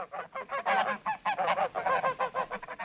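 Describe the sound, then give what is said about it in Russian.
A flock of geese honking repeatedly in quick, overlapping calls, fairly loud and steady throughout, as the birds fly past. “Яблоня ее заслонила веточками, прикрыла листиками. Гуси-то и пролетели.”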